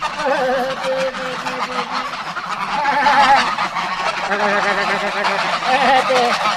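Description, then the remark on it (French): A loud, dense chorus of geese and a duck honking nonstop in answer to a person calling them while feeding them, many overlapping nasal calls, with the person's voice mixed faintly into the din. “Le canard, les oies, tout le monde me répond.”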